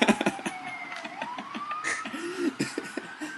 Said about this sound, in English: That's an ambulance.